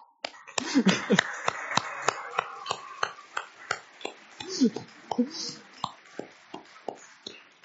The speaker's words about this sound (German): Aber bevor wir einsteigen, möchte ich euch bitten, dass wir uns alle mal kurz beteiligen und gemeinsam aktiv werden, indem wir einfach mal kurz klatschen